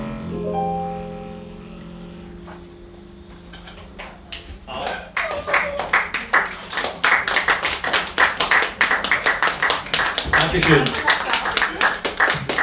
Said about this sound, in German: Den Applaus, junger Mann, danke.